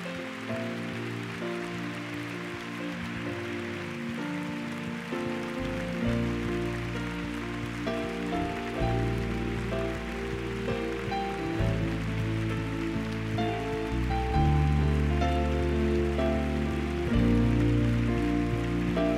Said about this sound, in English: Why don't all the true worshipers give the Lord a big clap this morning?